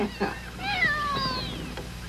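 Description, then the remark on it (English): A cat whose leg has just been set lets out one long, drawn-out meow, its pitch bending up and then sliding down, clear after a couple of short soft sounds. “Not so bad setting a cat's leg, young fella, but I'm warning you, I'm not taking the tonsils out of a chipmunk.”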